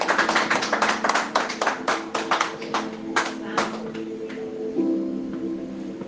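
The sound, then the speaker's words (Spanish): A church audience breaks into applause for God, a dense burst of many hands clapping that thins out and fades after a few seconds, with a low sustained tone and murmuring voices beneath. “Denle aplauso porque Él sabe.”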